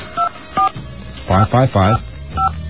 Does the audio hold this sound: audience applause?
no